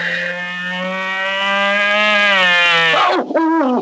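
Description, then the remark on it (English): A mosquito buzzing as it makes right for Crazy Quilt: a steady, reedy drone holds one pitch for about three seconds, then wavers and dips up and down briefly before stopping. No voices are heard. “It's one of those military-minded mosquitoes, and he's making right for Crazy Quilt.”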